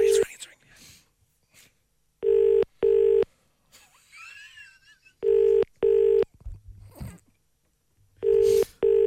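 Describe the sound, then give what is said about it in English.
A phone line rings out on an outgoing call: steady double-burst ringback tones repeat three times, loud and clear, with quiet murmured talk in the gaps between them. “It's ringing.”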